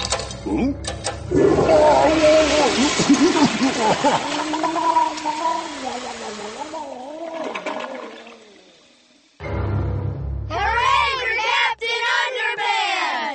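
A toilet flushes with a loud rushing swirl of water that gradually drains away over several seconds, then a voice starts up right after the water fades.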